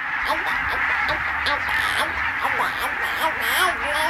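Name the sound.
barnacle geese calling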